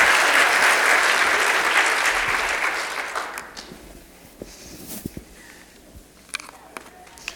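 Audience applause, a dense wash of clapping that is loud at first, then thins out over about three seconds into a few scattered claps and light shuffling.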